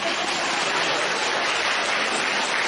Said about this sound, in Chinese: 鼓掌